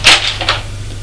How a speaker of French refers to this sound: La porte qui est en face où il est rentré s'ouvre.